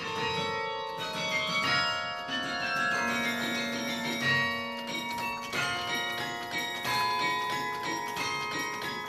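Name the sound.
historic church bell ringing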